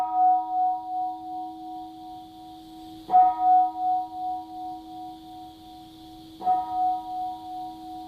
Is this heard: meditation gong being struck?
yes